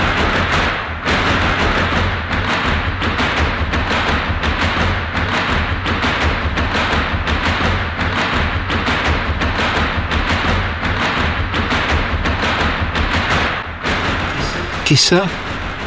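A theatre audience stamps its feet in a long ovation after a play, a loud, steady rhythmic pounding of thuds that keeps up for the whole stretch with a dense crowd noise underneath.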